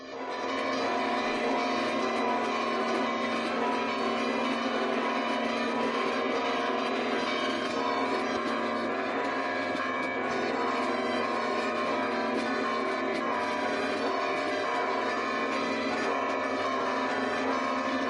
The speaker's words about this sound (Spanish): Y escuchamos ese sonido de campanas.